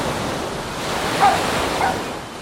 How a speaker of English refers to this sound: In the morning, the surf rolls in.